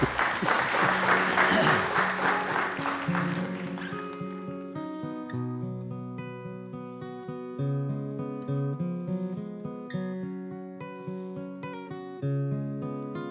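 A crowd claps loudly and steadily for about four seconds, then the applause fades as a melodic instrumental tune with clear, ringing notes takes over.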